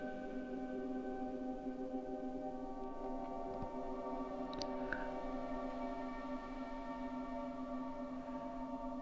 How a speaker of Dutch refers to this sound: We gaan nu een andere trilling ervaren. Ervaar eens de trilling van 500 hertz. Hoe voelt 500 hertz voor jou?